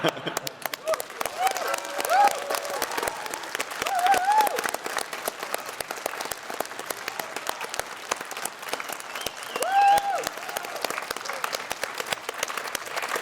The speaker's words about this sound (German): Und meine Idee ist, es wäre ja noch geiler, wenn eigentlich wir für euch klatschen könnten, weil ihr auch alle mitmacht. Wir machen das jetzt einfach mal, dann seid ihr verpflichtet, alle mitzumachen.